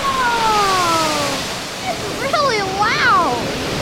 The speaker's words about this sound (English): We've arrived just in time to catch some action at the Harry Tracy Water Treatment Plant. Oh, that water's getting really high. It's gonna spill over. Oh, there it goes. Oh, wow.